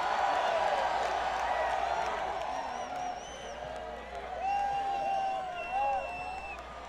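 A concert crowd applauds and cheers, dense clapping at first that thins slightly, with high whoops and whistles rising over the steady roar of the audience.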